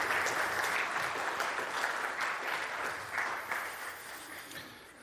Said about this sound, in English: Yeah, everybody stand up and applaud as he walks out. I just think he earned that.